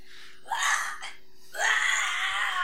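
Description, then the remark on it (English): A voice imitates retching while screaming: two harsh, raspy bursts, a short one then a longer, strained one, loud with no other sound around them. “I don't even know how you vomit and scream at the same time.”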